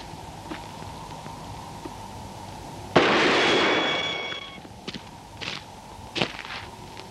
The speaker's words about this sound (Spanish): Balazo limpio, delicado. Destruye lo preciso.